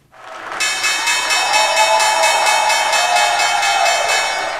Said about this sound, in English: That's right, they're back on the trading floor in person at the New York Stock Exchange. That was the reopening bell rung by Governor Cuomo.